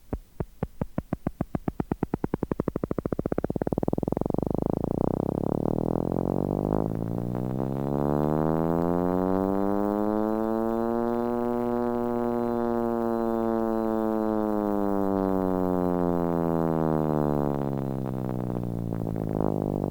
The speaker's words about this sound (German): Man hört einen zweistimmigen Vorgang. Zum gleichbleibend weißen Geräusch der Impulse gesellt sich das steigende farbige Tönen ihrer Geschwindigkeit.